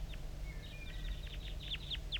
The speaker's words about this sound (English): I'm getting a lot of calling from the decoys, and those are chitter notes of the wild bird. Well, there must be more than one wild bird here.